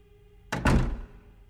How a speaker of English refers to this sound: She flinched and stepped back into her apartment, swinging the door shut.